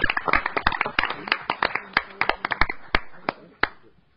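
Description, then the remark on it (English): An audience applauds a posthumous student award with a burst of many overlapping hand claps that thins out to a few scattered claps and fades away after about four seconds. “So let's give her a posthumous, maybe, applause.”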